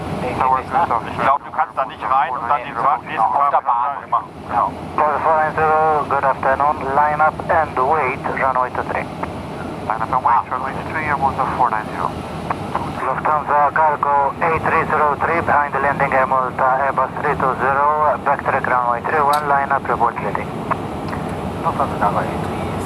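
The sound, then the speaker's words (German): A steady, loud jet engine drone fills the background throughout as an airliner taxis on the ground at an airport toward the runway start point, while a person talks continuously over it. “Der ist vor uns gelandet und erst als der auf dem Boden war, war es für uns dann an der Zeit, zum Startpunkt zu rollen.”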